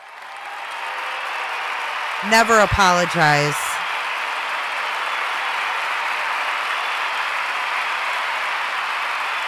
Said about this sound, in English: Wow. We need to give her a big round of applause.